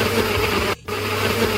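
A blender motor whirs loudly and steadily, cutting out for a split second before roaring back, as if straining against a thick load while failing to grind chiles for salsa. No one speaks.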